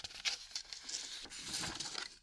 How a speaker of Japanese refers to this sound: はい、じゃあ、ちょっとページをめくります。